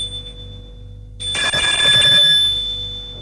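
A woman rings the doorbell at a man's door: after a second of low hum, a loud, bright electric bell rattles out in one sustained, high-pitched ring that carries on to the end, with no voices.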